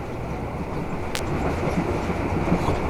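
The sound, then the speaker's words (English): A train rolls steadily along the rails in Germany, on the ride from a Kaserne to the city, with a continuous rumble. One sharp metallic click cuts through about a third of the way in, and no one speaks. “You are on that train again, on pass, on that familiar ride from Kasern to city.”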